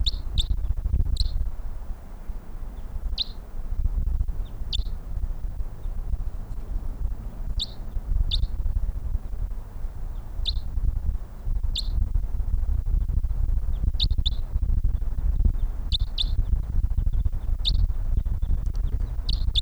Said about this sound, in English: Three birds here, at least. They're coming this way.